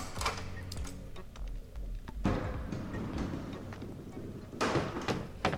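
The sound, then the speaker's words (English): Sharp mechanical clicks and a heavier clunk of a prison key turning in the lock of a locked door, followed by the door opening, set over a low steady background hum. “You'll find a door. The door is locked. A sign reads Prison of Frozen Time. Use the prison key to unlock.”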